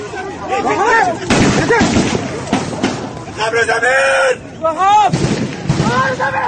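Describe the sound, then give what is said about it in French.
Loud, irregular bursts of gunfire crack out in quick succession for several minutes as a small group of attackers fires on the crowd and marching soldiers at a military parade on a sunny morning, mixed with frantic shouting and wailing voices rising and falling between the shots. “La fusillade dure plusieurs minutes.”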